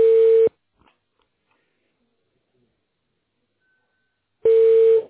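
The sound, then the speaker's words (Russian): A telephone rings in two short, loud electronic bursts, one at the start and one at the end, with about four seconds of near silence between them. “Вот разрывается просто телефон.”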